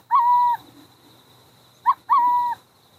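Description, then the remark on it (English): Burrowing owl calls at a decommissioned military nerve-gas storage site in Oregon dotted with concrete bunkers: a sustained, steady mid-pitched hoot, a pause, then a quick short note followed at once by another long hoot, clear over a faint background hiss. “But the site has taken on a new life as a luxury subdivision for burrowing owls.”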